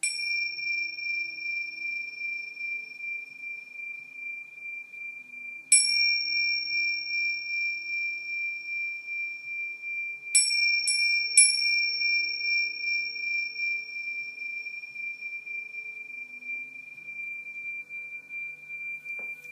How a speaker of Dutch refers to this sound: En ik zal het even een tingeltje meegeven, zodat je er nog makkelijker in kan komen.